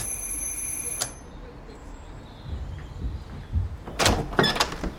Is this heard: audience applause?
no